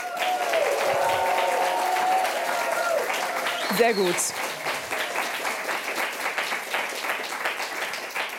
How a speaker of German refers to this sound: Da bin ich mit über 100 Kindern und Erwachsenen heute in der Zentralbibliothek der Hamburger Bücherhallen. Könnt ihr euch mal mit Jubel und Applaus ein bisschen vorstellen?